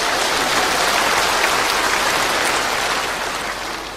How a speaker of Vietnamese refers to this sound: Xin cho một tràng pháo tay khen ngợi.